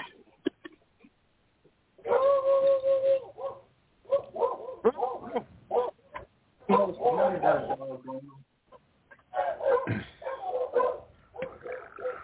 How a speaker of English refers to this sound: The dogs are barking. Yeah, yep. Somebody's puppies aren't happy.